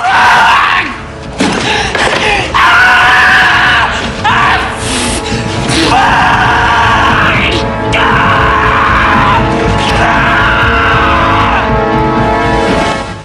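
A man screams in agony as a flaming lighter is put to his genitals, long, loud, strained howls broken only by brief gasps for breath, continuing almost without pause for over ten seconds, harsh.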